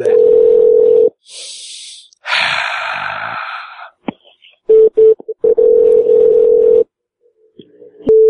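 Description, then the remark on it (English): A steady, fairly loud phone dial tone hums, breaks off for a few seconds of breathy noises, then returns in short stuttering bursts before holding steady again and cutting out, as a caller hangs up and calls back because of echo on the line. “I'll hang up and call back.”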